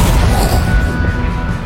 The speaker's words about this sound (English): Like a door slamming so hard it breaks the sound barrier. The trees ripple and shake from the shockwave.